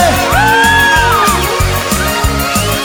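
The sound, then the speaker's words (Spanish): An audience shouts loudly for Jesus in long, rising and falling cries, carried over pounding music with a steady, repeating bass beat that runs throughout. “A ver, un grito fuerte.”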